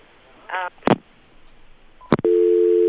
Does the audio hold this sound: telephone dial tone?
yes